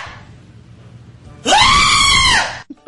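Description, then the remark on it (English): A real goat, the screaming goat from a Doritos commercial, lets out a single loud, drawn-out scream lasting about a second, harsh and human-like, after a moment of low background noise, then cuts off abruptly. “Here's the screaming goat from the Doritos commercial.”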